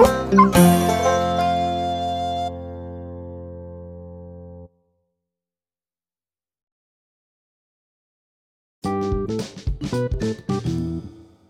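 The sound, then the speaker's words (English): A long, ringing electronic chord fades out, then after a pause of silence a cluster of dogs bark in quick, overlapping bursts, loud for a couple of seconds. “They seem pretty friendly, don't they? They're more responsive to me than my kids, to be honest.”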